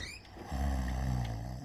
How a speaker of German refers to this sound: Na klar, Papa schnarcht mal wieder.